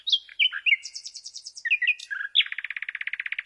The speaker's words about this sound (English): Shall we hear, then, the nightingale straight, as it were, first?